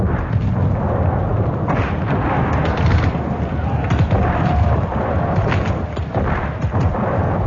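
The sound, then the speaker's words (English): Heavy enemy artillery cannon fire booms and rumbles continuously, a dense, loud barrage of deep low-frequency blasts overlapping with crackling bursts and no clear pauses. “Loud and nasties, them's theirs coming our way.”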